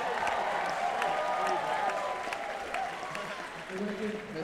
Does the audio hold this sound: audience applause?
yes